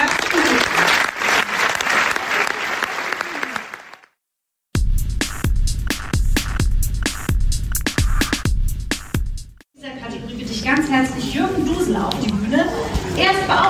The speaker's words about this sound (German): Einen großen Applaus!